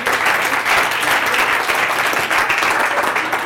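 An audience claps steadily for several seconds, a dense, loud wash of many hands with no pauses and no voices rising above it.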